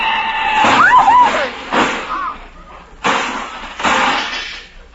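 A big black touring car crashes with breaking glass: a brief squeal, then a series of loud, jumbled smashing impacts and clattering glass over several seconds, in several bursts.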